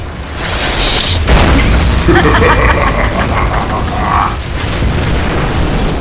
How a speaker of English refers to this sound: hears the explosion of the temple in the distance